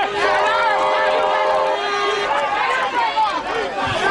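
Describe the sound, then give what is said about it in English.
An angry, raging mob shouts and yells over itself in a dense, unbroken roar of voices, held back by police with shields from Prime Minister Julia Gillard and Tony Abbott, with a steady whistle-like tone holding through the first two seconds. “The only thing between them and an angry, raging mob were police with shields.”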